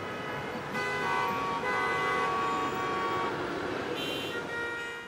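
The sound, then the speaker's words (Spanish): Busy street traffic in El Espinal, Tolima, with several overlapping car horns honking in sustained, tonal blasts over a steady rumble of engines, loud throughout with no speech. “Con calles ruidosas invadidas por el caótico tráfico.”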